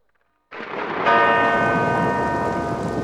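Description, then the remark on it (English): A heavy bell tolls once, loud, its rich ringing overtones sustaining without fading, right after a sudden rumbling noise bursts in. No one speaks. “Listen, I want some rain, thunder, and some hail's bells, all right?”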